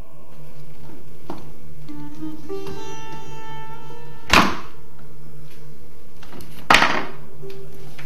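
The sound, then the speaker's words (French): A door is lowered back onto its hinge pins, resting on a screwdriver held under foot: two sharp clunks a couple of seconds apart, with faint creaking and rubbing in between and no one talking. “posez le pied sur le tournevis, remettez la porte au bout de celui-ci, et ensuite, vous pouvez réenclencher les pommelles.”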